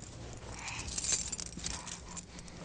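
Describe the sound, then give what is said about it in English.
A mother's keys jangle and clink in short, irregular bursts of light metallic rattling, loudest near the middle, over a soft low background rumble with no one speaking. “Are those mommy's keys?”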